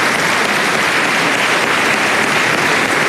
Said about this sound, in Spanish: Le damos un aplauso también al presidente Piñera, en paz descanse.